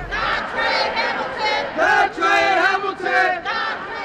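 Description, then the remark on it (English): Several dozen protesters march away from the federal courthouse through downtown Milwaukee, chanting and shouting Dontre Hamilton's name in loud, rhythmic bursts, many voices rising together in repeated surges with brief dips between phrases. “After Monday's press conference, several dozen protesters marched away from the federal courthouse through downtown, chanting and shouting Dontre Hamilton's name.”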